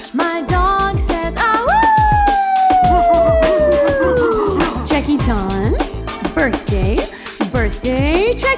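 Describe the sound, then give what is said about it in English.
A dog lets out a long, loud howl that slowly falls in pitch over about three seconds, set against steady rhythmic music with other short vocal yelps around it. “My dog says, whoop, whoop, to you”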